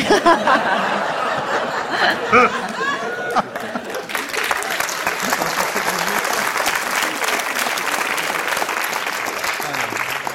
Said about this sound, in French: Applaudissements mous.